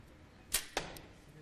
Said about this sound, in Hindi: उम्मीद है black circle में जाएगा लेकिन नहीं गया। 60 सेकंड में 5 तीरों का निशाना लेना है।